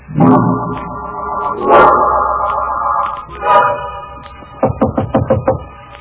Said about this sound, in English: He's come. He knocks on my door. Faith knocks. Patiently.